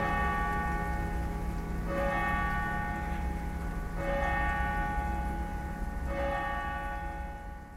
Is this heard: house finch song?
no